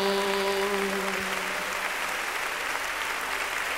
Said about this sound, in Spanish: Nuestras palmas adorémosle. Levanta tu aplauso al Cordero.